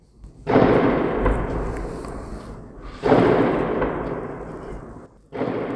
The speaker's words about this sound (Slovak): Útoky delostrelectva sa približili veľmi blízko k nám. Práve výbuchy, ktoré počúvame, to sú vzdialenosti možno 200-300 metrov za vedľajšou budovou.